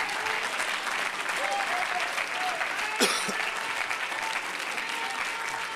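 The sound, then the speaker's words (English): A crowd claps steadily and cheers, a dense wash of applause filling the whole stretch, with scattered voices shouting and a brief whoop standing out midway. “Come on, clap your hand, lift your voice.”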